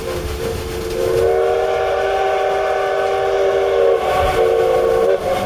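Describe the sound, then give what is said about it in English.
A steam train whistle blows one long, loud, steady blast for about four seconds as a signal while the brakes are still engaged and a storm approaches, with the low rumble of the locomotive underneath and no talking. “Blow the whistle again. I don't think he has released the brakes yet.”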